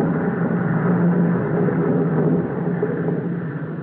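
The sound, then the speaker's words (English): A passenger plane arriving from Holland at an airport in North Sumatra on the Netherlands route between Europe and Java; its engines drone steadily, a dense low rumble with a faint humming tone, holding nearly constant loudness and easing off slightly toward the end. “Ah, there comes a passenger plane, all the way from Holland.”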